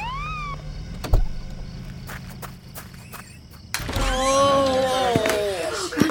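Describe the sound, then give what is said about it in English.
A flashing red ambulance siren wails in rising and falling sweeps, growing louder as it arrives in Maine to take away an injured grandmother, after a stretch of thuds, clicks and shuffling footsteps. “two men and a lady came in a flashing red ambulance to take grandma away.”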